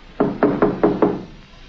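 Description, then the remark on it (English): Five firm knocks on the wooden door of a caretaker's cottage on a park estate, in an even, steady rhythm, clear, followed by a brief quiet tail with no voices. “he came upon the caretaker's cottage. After just a moment of hesitation, Harry knocked”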